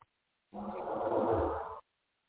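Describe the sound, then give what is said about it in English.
A single rough, rasping snore lasting just over a second, steady, then silence; no one speaks. “Is he snoring?”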